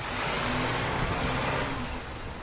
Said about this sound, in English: Everything that made up the households devastated by Sandy's storm surge. Giant front-end loaders are building mountains of debris.